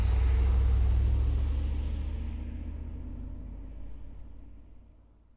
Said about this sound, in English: Look at that bus. It's going to go to the beach.